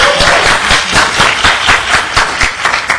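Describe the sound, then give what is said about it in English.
An audience claps steadily for three seconds, a dense, loud patter of many hands with a few sharper individual claps standing out, and no voices over it. “Clap!”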